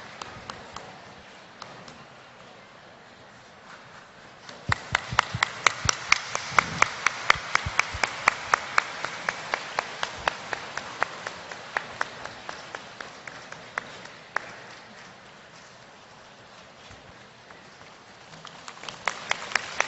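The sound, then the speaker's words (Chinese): An audience applauds warmly to invite Master Lu (卢台长) to read totems: a soft patter swells into loud, dense clapping that holds steady, eases off, then picks up again at the very end. No one speaks. “现在，让我们用最热烈的掌声，恭请卢台长为我们慈悲看图腾。”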